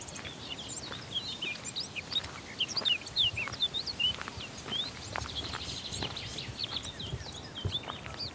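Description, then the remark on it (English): A blackcap, a summer migrant, sings a run of quick, bright warbling phrases, fairly soft, while scattered footsteps or rustling taps sound in the foreground. “That's a black cat singing. That's a summer migrant.”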